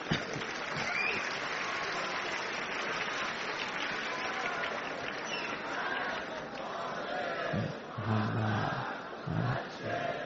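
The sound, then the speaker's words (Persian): A large audience claps steadily while voices chant salawat together in unison, a loud, dense, sustained wash of applause and collective chanting filling the whole stretch, swelling slightly toward the end. “نه این بحث دست زدن و صلوات فرستادن تبدیل نشه به یک نمیدونم مسابقه و فلان چیز.”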